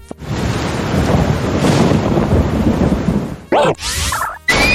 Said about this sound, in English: Foe Unit Cloud used Thunderstorm.